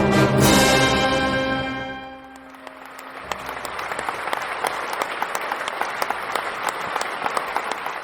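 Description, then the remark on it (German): A sustained orchestral chord rings out and fades as the concert ends at the Festspielhaus St. Pölten, then the audience breaks into steady, dense applause with many crisp individual claps, continuing loudly to the end. “Das Konzert ist zu Ende, das Publikum spendet Applaus und dann gehen Gäste und Orchester wieder getrennte Wege.”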